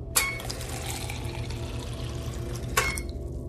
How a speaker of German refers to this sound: Wasser. Wasserration Nachmittag, Kommander Brandes, 0,2 Liter.